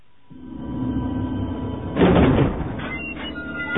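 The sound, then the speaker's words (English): Heavy double gate doors grind open with a low, sustained scraping rumble, swelling into a louder creaking burst midway, then settling with faint metallic squeaks. No voices. “Corrin pulled the double doors of the gate as far apart as possible, then squeezed through the opening”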